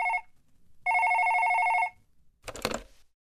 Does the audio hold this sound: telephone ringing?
yes